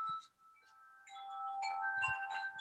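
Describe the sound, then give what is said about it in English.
Chimes up above ring softly on a windy, cold day, several bright metallic tones struck in overlapping succession, each note sustaining and blending into a shimmering, layered wash, with no voices. “What's them bells? That's the chimes up there.”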